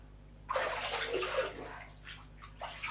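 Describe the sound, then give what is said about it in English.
Bath water splashes and pours as hair is rinsed in a bath, starting abruptly and rushing steadily for a couple of seconds before breaking into a few shorter sloshing bursts. No one speaks. “It's gonna drip in my eyes, but.”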